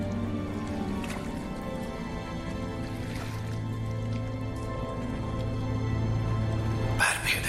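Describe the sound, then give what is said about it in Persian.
Steady low watery rumble of water rising deep inside a cave, with scattered echoing drips and small splashes, building slightly louder toward the end with a brighter splash. “آب داره بالا میاد. ما که تو دل غاریم، آخاب چطور تا اینجا اومده؟”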